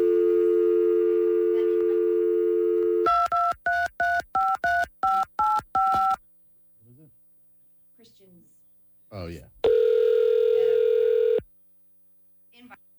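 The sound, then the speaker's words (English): A steady dial tone gives way to a quick series of eight or so touch-tone beeps, then a short pause with faint clicks before a loud, sustained ringback tone sounds on the line. “Hold tight, and we're gonna work on getting Rex on the phone.”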